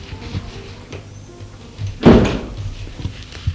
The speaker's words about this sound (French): Le portail s'est ouvert, il entre.